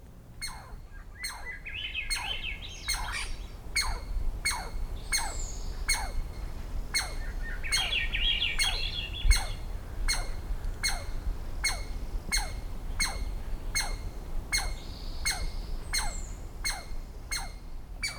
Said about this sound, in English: The bird eyed the fruit carefully and then made quick, short flight, plucking off a berry. In the following recording, Swainson's thrush and an alarmed squirrel share the soundstage.